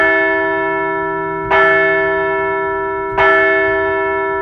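bell ringing

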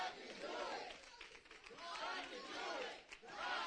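audience shouting in response

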